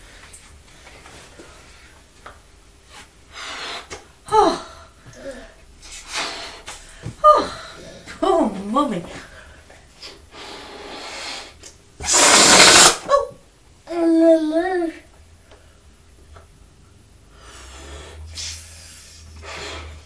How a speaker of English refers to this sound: But we brought some balloons back from the party last night, so Mummy, we'll have a go at blowing up a big blue balloon.